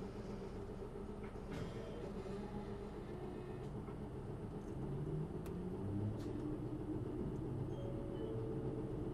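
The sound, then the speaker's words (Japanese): A Japanese city loop bus engine rumbles steadily, with low tonal drones shifting as the bus pulls away and gathers speed, plus occasional clicks and rattles; no one speaks. “動きます、気をつけてください。”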